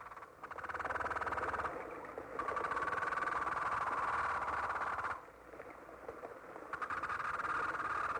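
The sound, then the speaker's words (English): A croaker fish calls in three long bursts of rapid, buzzing pulses, a loud rattling drone with a steady raspy tone, broken by short pauses of quieter hiss. “The croaker fish.”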